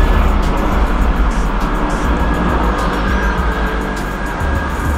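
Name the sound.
helicopter passing overhead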